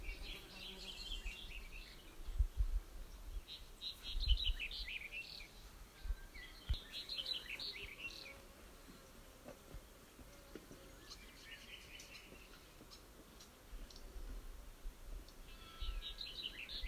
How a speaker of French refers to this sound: Et doucement, amenez votre attention au chant des oiseaux qui chantent quelque part dans le monde. Entendez-les. Gardez votre attention dans le chant des oiseaux.